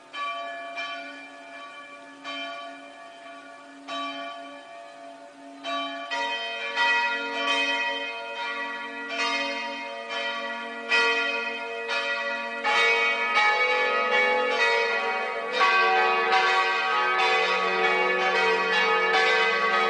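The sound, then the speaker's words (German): Church bells peal continuously, with steady overlapping strikes that ring out loud and resonant, growing fuller and denser as more bells join partway through. No one speaks. “möge Gott uns begleiten und die neue Glocke beschützen, dass sie gut in der Glockenstube ankommt.”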